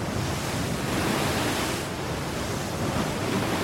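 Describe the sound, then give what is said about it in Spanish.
A steady, loud roar of rough surf on the Cantabrian Sea fills the whole stretch, waves churning and breaking with a slight swell partway through, and no voices. “El mar Cantábrico, tan bravo e impredecible, sigue siendo causa de numerosas desgracias por toda la costa.”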